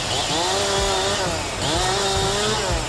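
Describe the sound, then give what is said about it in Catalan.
A chainsaw runs loud and steady, its engine pitch rising and dipping in two long cycles as it bites through wood, clearing pine trees felled by a windstorm in Molló, in the Camprodon valley, with no voices over it. “A Molló, ahir al matí encara retiraven, com sentíem, arbres caiguts”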